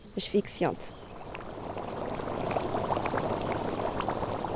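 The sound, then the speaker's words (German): A hot geothermal spring at Ribeira Grande Caldeira bubbles and gurgles below a warm patch of grass, a vent with very high sulphur and CO2 levels, in a steady, dense churn that swells slightly and continues throughout, with a brief voice heard at the very start. “Sie notiert einen roten Punkt an einem warmen, gemütlichen Stück Rasen oberhalb einer heißen, blubbernden Quelle.”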